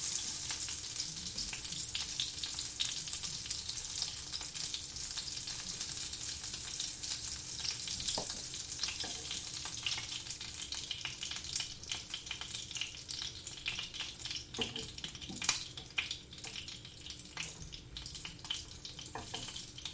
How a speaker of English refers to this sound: So now what I've got is I've got some boiling water and I'm going to make up some beef stock.